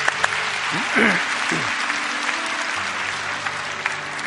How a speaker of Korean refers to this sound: 잠깐 일어나 볼까요? 우리 박수로 축복하고 격려하겠습니다.